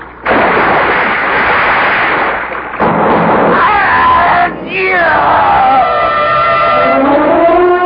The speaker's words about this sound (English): I thought I heard the roar of a heavy weapon, like an old-fashioned cannon.